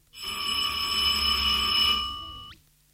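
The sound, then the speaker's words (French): A school bell rings the 10:30 bell loudly and continuously for about two and a half seconds, a bright, buzzing metallic clatter that holds steady and then stops abruptly, with no voices. “Leur conversation est subitement interrompue par la sonnerie de 10h30.”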